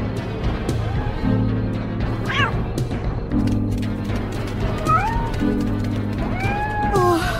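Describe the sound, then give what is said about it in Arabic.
A hungry cat that has not been fed since the day before meows several times, its wavering, pitch-sliding cries spaced a couple of seconds apart over a steady low droning hum that runs through the whole clip. “لقد جوعت القطة ولم أطعمها شيئا منذ الأمس.”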